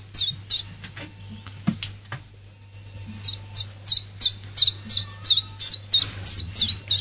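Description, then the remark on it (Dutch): A common chiffchaff sings a steady, repetitive series of high, sharp chirping notes, evenly spaced and rhythmic, with a low background hum and no talking. “Wat horen we nu op de achtergrond? De tjiritjaf.”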